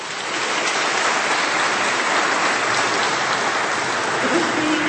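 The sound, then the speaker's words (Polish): A crowd breaks into steady, loud applause congratulating senator Jan Maria Jackowski, many hands clapping together in a dense continuous wash of noise that holds evenly for several seconds. “Jeszcze raz gromkimi oklaskami przypieczętujmy te gratulacje.”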